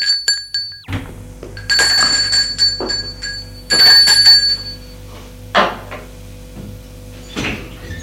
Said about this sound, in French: Un après-midi. On a sonné à la porte d'entrée.